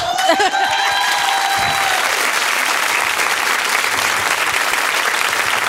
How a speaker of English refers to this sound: So let's give our panel a round of applause as we move into our questions. I don't know, that applause didn't sound, I mean.